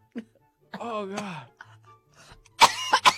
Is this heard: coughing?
yes